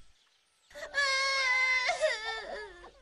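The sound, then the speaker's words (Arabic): A woman crying out in a loud, high-pitched wail, one long sustained sob that wavers and breaks partway before trailing off, with no other voices. “كأنه صوت حرة تبكي.”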